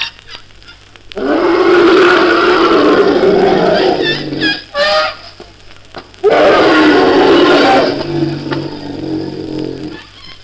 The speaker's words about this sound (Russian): Если стук не помогает, слон тогда вздымает хобот и легонечко рычит.